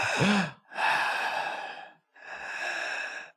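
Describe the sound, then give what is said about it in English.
A voice imitates a woman's heavy, laboured breathing: three long, loud, breathy exhales and inhales in a slow rhythm, with no words spoken. “Now that you're close, you can hear her breathing like that.”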